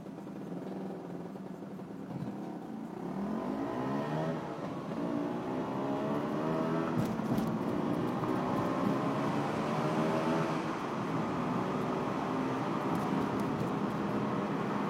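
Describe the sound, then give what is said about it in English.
A small motor scooter engine hums steadily, its pitch climbing and dipping as the rider throttles up and eases off, with a constant buzzy drone throughout and no talking. “Hot scooter action.”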